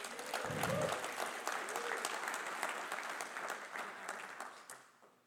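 An audience claps steadily and cheers, with a few voices whooping briefly near the start; the applause stays dense and even for about five seconds before tapering off.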